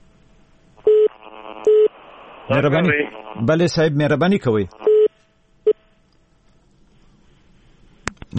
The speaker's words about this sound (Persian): متاسفانه تلفن شات شد.